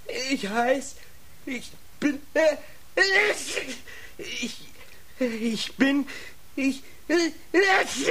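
A voice acts out a string of sneezes, a dozen or so short, sharp, breathy bursts in quick uneven succession, fairly loud, with no other sounds around them.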